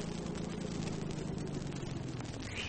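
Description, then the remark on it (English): A car engine drones steadily with a low, even rumble as the vehicle pulls over and comes to a stop after another car cuts right in front of it and stops, with no voices. “Oh, it's cut right in front of us and stopped. Hang on, I've got to pull over.”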